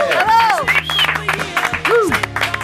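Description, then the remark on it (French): A TV game show audience applauds a contestant arriving for a fifth appearance, a dense, steady patter of clapping broken by rising and falling whoops or whistles of cheering over a low sustained tone. “Mesdames et messieurs, pour sa 5e participation sur Aerosmith Ribbon, veuillez applaudir”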